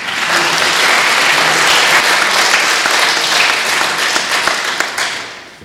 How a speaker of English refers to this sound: I think that says it all, that amazing round of applause.